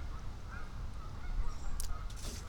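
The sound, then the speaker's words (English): At least two dozen mallard ducks on a pond quack faintly and intermittently, their scattered calls sitting over a steady low outdoor rumble, with no one talking. “There's a lot of ducks in here. There's 2 dozen mallards in here at least.”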